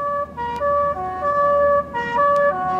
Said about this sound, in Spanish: La ambulancia. Ha llegado el médico.